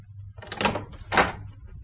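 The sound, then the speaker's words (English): A door is opened, giving two short, scraping mechanical bursts about half a second apart over a steady low hum, with no one speaking. “Open the door”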